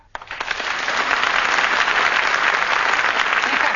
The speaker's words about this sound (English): Why, Mr. Reggie, I thought it must be you by the round of applause you always get when you come in.